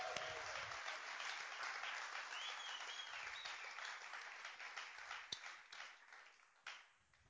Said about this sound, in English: This is my wife, and I'd like to give her a big round of applause.